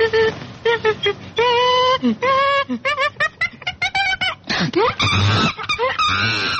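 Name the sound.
monkey screeching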